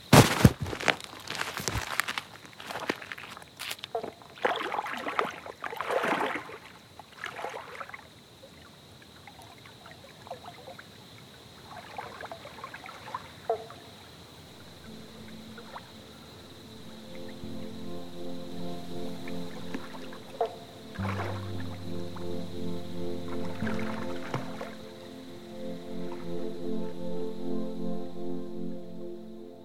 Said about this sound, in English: There's little bats flying overhead, and there's a pretty full moon out, so I'm going to try and slip into the water now. All right, here we go.